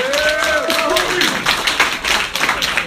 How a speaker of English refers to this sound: Right, keep that applause going for your next comedian coming to the stage,